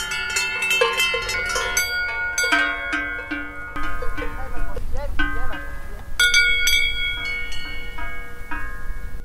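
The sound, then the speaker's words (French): Several cattle bells clang irregularly, overlapping metallic tones ringing, with a low rumble of movement beneath and no talking. “Voilà des belles cloches.”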